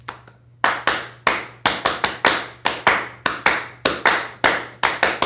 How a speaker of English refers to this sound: That was another little thing, the clapping rhythm.